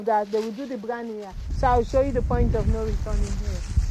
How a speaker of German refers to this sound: Es kommt Wind auf.